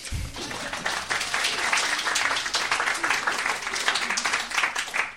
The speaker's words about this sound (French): Je veux aussi remercier toute l'équipe, tous ceux qui sont passés ce matin au marché, tous ceux qui sont venus dire coucou, tous ceux qui ont donné un coup de main. Là aussi, on peut s'applaudir mutuellement.